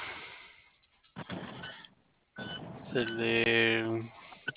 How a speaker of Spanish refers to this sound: Sí, pero viene sonando la chicharra del inhibidor.